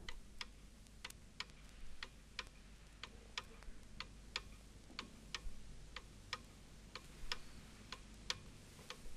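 A pendulum clock ticks steadily, sharp clicks arriving at an even pace, roughly two per second, over a faint low hum. No one speaks.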